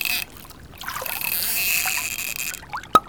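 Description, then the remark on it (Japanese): Water pours and splashes steadily for a few seconds as someone washes their body before getting into a bath, a broad rushing wash with small trickles, ending in a sharp splash and a faint clack. “あなたさっきまで畑仕事してたんだから、入る前には体を洗わないと。”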